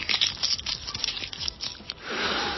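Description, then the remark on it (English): A cinnamon tree leaf is cracked and torn by hand beneath a cinnamon tree, a quick run of dry crinkling snaps and rips over about two seconds, followed by a soft steady hiss with no voices. “Right now I'm standing underneath a cinnamon tree. Here, let me crack the leaf for you.”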